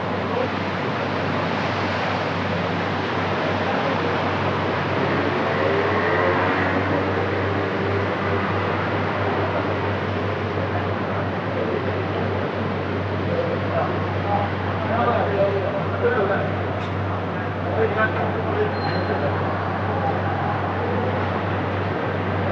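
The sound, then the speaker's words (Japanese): A busy city street at night at the intersection in front of Sendai Station, recorded as Heisei turned to Reiwa, April 30 to May 1, with a steady low traffic rumble, cars swishing past now and then, and a crowd of voices murmuring in the background. “こちらは昨年の4月30日から5月1日、まさに平成から令和に切り替わる瞬間を仙台駅前の交差点で録音したものです。”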